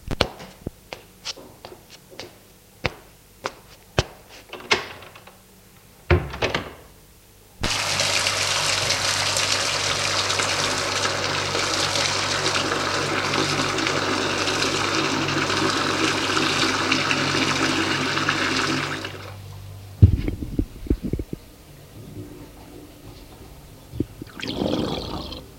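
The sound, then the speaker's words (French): A shower runs in a steady, loud hiss for about twelve seconds as a 16-year-old boy showers in the morning, then cuts off abruptly. Scattered clicks and knocks come before and after it, with no voices. “Après avoir pris sa douche, il va dans la cuisine prendre son petit déjeuner, en évitant de ne pas trop faire de bruit, car ses parents dorment encore.”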